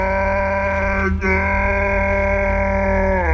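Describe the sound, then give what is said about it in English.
The giant Gwarp's deep, booming bellow among centaurs holding bows, one long loud sustained roar with a rich droning tone, briefly catching near the middle before rolling on and rising slightly at the end. “He stooped a little, the centaur's arms tensed on their bows, then bellowed.”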